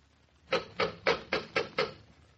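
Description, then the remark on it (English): The knocker on Aunt Louisa's door raps six times in a quick, steady rhythm, each strike a loud, sharp metallic-wooden clack standing out against a quiet background. “And wouldn't you know that Aunt Louisa would have a knocker on her door instead of a simple little electric bell?”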